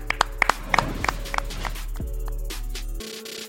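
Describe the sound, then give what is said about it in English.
A burst of sharp hand claps at an uneven pace for about two seconds, each crisp and punchy, over a steady low hum that cuts out near the end. “Clap it up.”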